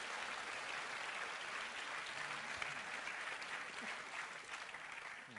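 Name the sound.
applause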